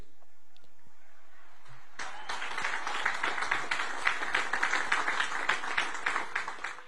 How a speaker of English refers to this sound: Do you hear that very light applause, by the way? Most of the applause you heard were from the commanders sitting on the stage right around Trump to kind of boost the crowd a little bit.